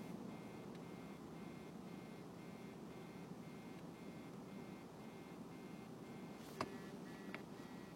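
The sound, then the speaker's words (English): A phone vibrates from an incoming call at home, buzzing in a steady series of short repeating pulses over a constant low rumble, with a sharp click or tap near the end. “Phone just vibrates and vibrates and vibrates because I'm getting a phone call at home.”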